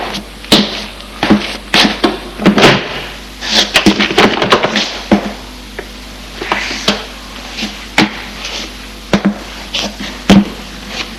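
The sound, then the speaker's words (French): A door off a corridor being opened, heard as a busy run of sharp clicks, knocks and rattling thuds spread irregularly over about eleven seconds, fairly loud, with no voices. “Ouvre une porte.”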